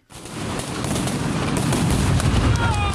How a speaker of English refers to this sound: The sound of flashbang grenades echo through the Belarusian capital, Minsk, at night, as heard here on video shared widely on social media.